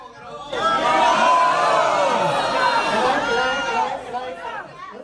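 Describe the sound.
A large crowd at a city council meeting erupts into a loud, sustained roar of many overlapping voices shouting no together, voting on a possible site in a vote called by District 2 council member Sergio Jimenez. The roar rises quickly and holds for several seconds before tapering off.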